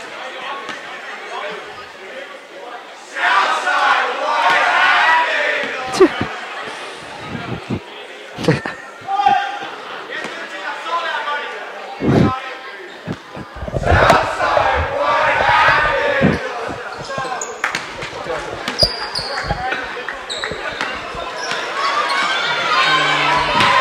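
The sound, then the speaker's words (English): A student crowd shouts and jeers, chirping at opponents, in loud, overlapping bursts at a basketball game between Port Washington and Southside of Rockville Centre, with sneaker squeaks and sharp basketball bounces punctuating the steady roar of chatter. “A little bit of chirping from our fellow peers.”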